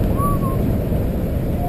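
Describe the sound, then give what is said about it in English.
Alex Honnold whistles a few thin, sustained notes, one gliding tone early and another starting at the end, while climbing Yosemite's 3,000-foot granite El Capitan with no ropes or safety gear, over a steady loud rush of wind-like noise and low rumble. “That's Alex Honnold whistling as he scales the 3,000-foot granite monolith of El Capitan.”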